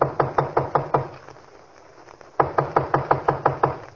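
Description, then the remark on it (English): Two rounds of firm knocking on a wooden studio door, each a quick run of about five raps, separated by a short pause; the knocks are fairly loud with no voices. “You ain't answering too quick. Oh, the door's open.”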